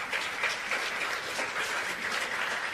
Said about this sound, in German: Allein dafür gibt es schon mal Applaus, ja?